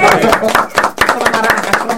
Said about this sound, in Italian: Benissimo, grande, intanto un applauso.